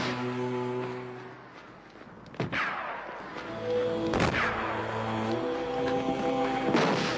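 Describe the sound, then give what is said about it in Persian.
Three heavy blasts of rocket and artillery fire boom out a couple of seconds apart, each with a rumbling tail, over a steady humming musical drone. An Iraqi soldier is firing rockets, and mortar shells are landing around a bunker. No one speaks. “جعبه اول تمام شد و سرباز عراقی جعبه دیگری را باز کرد. مثل هر روز باید همه موشک‌ها را تمام می‌کرد.”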